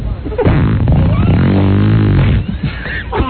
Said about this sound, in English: They sponsor our farts.